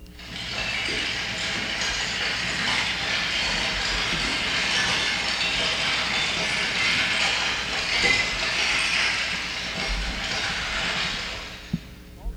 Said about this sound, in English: It's the sound of lava flowing. Now, this was recorded in Hawaii on the slopes of Mount Kilauea. It's an active volcano. It was during an eruption in 1983.